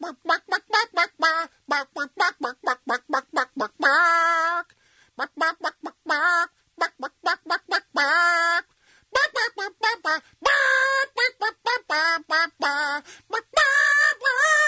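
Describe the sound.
A person imitates a chicken on a radio show, rattling off rapid bursts of short clucks broken up by longer squawking cries, loud and continuous throughout with no other talking.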